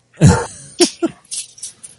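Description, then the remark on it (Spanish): A person imitates a dog barking: one loud, gruff woof, then two shorter, sharper yaps, trailing off into a few breathy huffs. “Así es como ladra un perro de verdad.”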